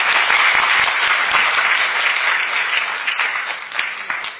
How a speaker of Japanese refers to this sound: それでは拍手いただきましたのでですね、継続してやっていく棚上げということで示させていただきたいと思います。